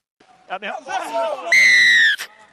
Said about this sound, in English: You would have heard the whistle plenty of times throughout your career. Is that a penalty or kickoff? Go play it again. Oh, yeah, that's a penalty. Penalty? Yeah, penalty whistle.